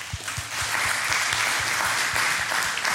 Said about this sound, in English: Okay. But again, you can clap for that.